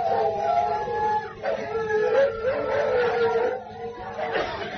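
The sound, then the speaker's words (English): Several dogs that have just woken up howl together in long, overlapping wails, their mid-pitched voices sliding up and down and holding steadily for nearly five seconds without a break. “The dogs have woken up.”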